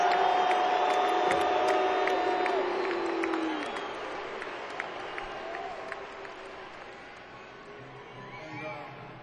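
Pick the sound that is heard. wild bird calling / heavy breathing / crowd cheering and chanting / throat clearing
crowd cheering and chanting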